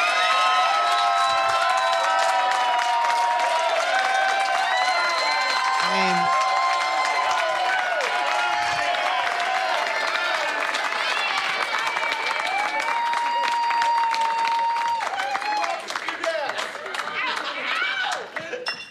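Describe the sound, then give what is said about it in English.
A large crowd claps and cheers loudly and steadily to get the speaker's mother to come to the stage, with high-pitched screams and whoops rising over a dense wash of applause that eases slightly at the end. “All right, I might regret this, and she might be angry, but what if you, I think if you guys clap loud enough, we might get my mom to come to the stage right now.”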